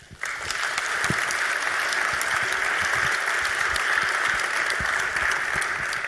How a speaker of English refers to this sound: So let's give a warm welcome and applause to Stefan Becker and Stefan Kolossa.